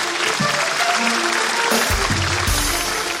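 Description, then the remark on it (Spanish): Loud, sustained audience applause, a dense crackle of many hands clapping at once, with scattered voices and low murmurs mixed into the steady wash of sound. “Un fuerte aplauso para mi amigo, por favor.”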